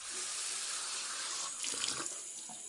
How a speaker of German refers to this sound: Einmal ging Joachim ins Badezimmer und trank Wasser aus dem Hahn.